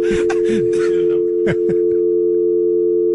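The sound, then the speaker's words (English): A steady telephone dial tone hums throughout as a phone call is placed to a woman on the air, with brief muffled voices and shuffling over its first half and a couple of sharp clicks like buttons being pressed before it continues alone. “This sounds like it's going to be a fake bit whenever I hear the dial tone and dialing.”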